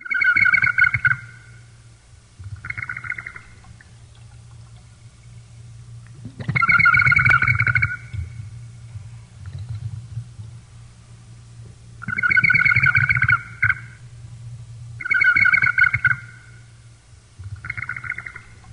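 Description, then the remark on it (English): A water-filled ceramic whistling jar made between the 11th and 15th centuries, half filled with water and rocked side to side so the liquid flows between two chambers, gives a warbling, bird-like trill, repeated in about six bursts over a steady low hum, each burst loud and fluttering before it fades. “This warbling sound is produced as the jar, half filled with water, is rocked from side to side, allowing the liquid to flow between the two chambers.”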